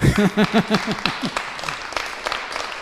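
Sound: audience clapping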